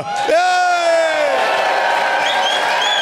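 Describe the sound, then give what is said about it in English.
A single voice imitates a cheering crowd, as if a theme song has just ended on the show Doug Loves Movies: a loud, sustained whooping cry that slowly falls in pitch, then fades into a breathy, hissing roar like an audience's applause. “Well, first we got to pretend the theme song just ended and everybody's cheering.”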